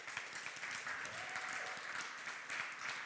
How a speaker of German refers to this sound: Ich möchte ganz kurz einen Moment nehmen und auch für unser Lobpreisteam einen Applaus mal wünschen.